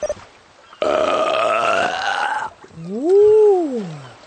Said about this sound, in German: Sehr interessante Walgeräusche. Erst pupst der Wal und dann rülpst er. Ist wohl eine Aufnahme von einem Pottwal, der eine Riesenkrake verschluckt hat.